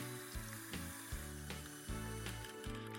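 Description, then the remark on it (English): A steady hiss of running tap water, like hands being rinsed under a faucet, plays under a bouncy musical backing with stepping bass notes. “Now, rinse your hands. Rinse them well. Turn off the water.”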